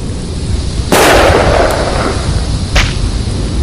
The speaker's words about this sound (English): He hears the snap. The mini sonic boom a high-powered rifle slug makes as it breaks the sound barrier.